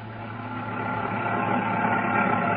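A motor vehicle engine runs with a steady, throaty drone that swells slightly louder over a few seconds, with no voices.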